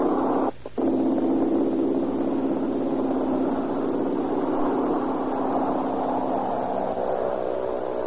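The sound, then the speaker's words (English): A small red airplane's engine roars loudly and steadily as it takes off from grass over Southern California, its buzzing propeller drone holding strong for the whole stretch, with only a momentary dip near the start. No voices are heard. “The sleek little mechanical red bird skims across the green of the air drone, sees the top of the grass, and falls toward the heavens.”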